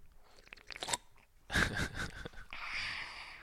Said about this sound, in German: Aufnahme läuft aber schon, also schlürf nicht so laut.